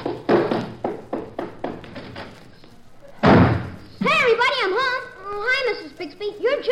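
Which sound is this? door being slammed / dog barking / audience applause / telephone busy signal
door being slammed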